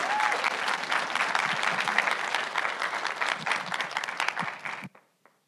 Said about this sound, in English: Well, why don't you give a big Believers Church round of applause